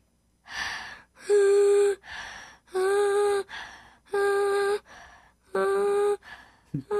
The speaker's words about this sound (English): You blow out and then sing as you're breathing in. See if you can do it.